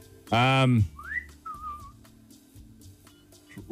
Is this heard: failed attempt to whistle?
yes